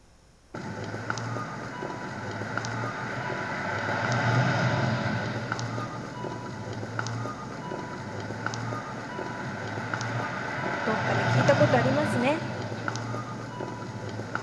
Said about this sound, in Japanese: 信号が鳴ってますね。車もうるさい音を立てています。